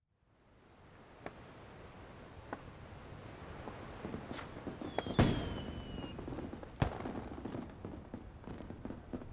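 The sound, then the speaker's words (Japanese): Fireworks pop and crack at irregular intervals, some sharper bursts standing out, with a faint whistling streak midway over a low continuous rumble; no one speaks. “綺麗な花火、ありがとう、神父様。”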